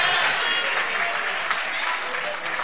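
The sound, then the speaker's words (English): A crowd applauds steadily for a woman, many hands clapping in a dense, continuous wash of sound that stays loud and even throughout, with no voices standing out. “Clap your hands for my girlfriend.”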